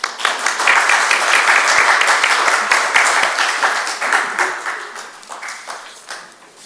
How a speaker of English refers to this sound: So let me wind up now and let's give Ash our round of applause.